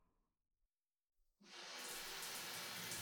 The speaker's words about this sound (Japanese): はい、じゃあ、シャワーで流していきますね。